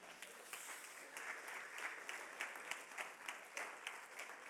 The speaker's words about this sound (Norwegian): Takk dere. Takk lovsangere. Kan jeg gi dere en applaus, synes jeg.